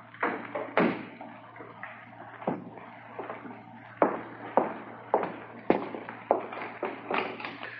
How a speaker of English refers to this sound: Sorry to keep you in here a minute longer than necessary, Sergeant. I was just bolting the door.